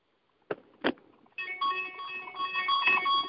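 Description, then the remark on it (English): Two sharp knocks or taps, then a phone alert starts ringing: a sustained electronic melody of bright, steady tones that continues to the end with no talking. “And my phone's going crazy. I was wondering what that was.”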